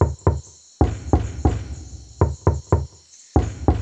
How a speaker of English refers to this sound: I can't believe this. He's making so much noise he can't even hear me knocking.